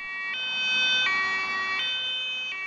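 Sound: emergency vehicle siren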